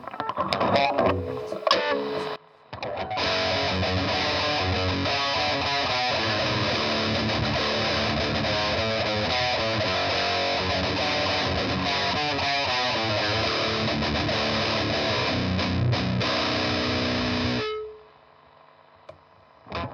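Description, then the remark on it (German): A high-gain, heavily distorted electric guitar in split-coil mode plays loudly and continuously for about fifteen seconds after a brief pause, then cuts off abruptly, leaving near silence. “Wollen wir den Split-Sound auch nochmal im High-Gain-Modus?”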